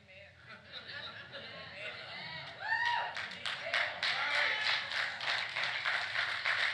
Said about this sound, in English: See, I don't know if you're applauding because of the word or you're applauding to get me to hurry up and end.